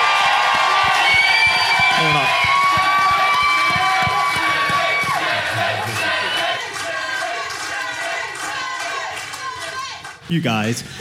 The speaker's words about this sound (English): Can we have a cheer for Great Uncle Roy?